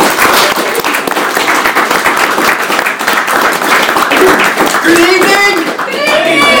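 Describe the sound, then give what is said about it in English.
Sustained audience applause welcoming a presenter for the evening, a dense, steady wash of many hands clapping loudly throughout, with a few voices whooping and cheering over it toward the end. “So a big round of applause”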